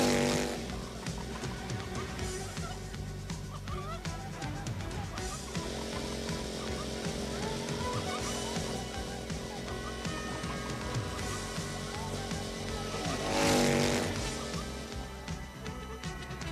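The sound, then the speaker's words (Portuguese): Snowmobile engines of seal hunters roar steadily and loudly with a rough, buzzing drone, surging louder for a moment near the end as they approach. “As motos da neve, os caçadores de focas, depressa.”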